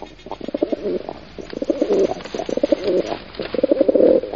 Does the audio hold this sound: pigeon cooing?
yes